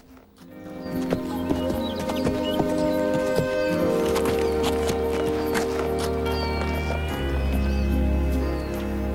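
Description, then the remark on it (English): A horse walks with steady, unhurried hoof clops, walking up to a man and stopping to stand beside him, sustained tonal music playing underneath throughout. “After a moment, the horse walks up and stands beside”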